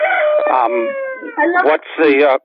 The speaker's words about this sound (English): I love the commentary from your rooster. Yes. People have mentioned that about the show, that they enjoy the chickens and other birds in the background. Rural NEK, I love it. Yes. In my backyard, wandering around with the chickens.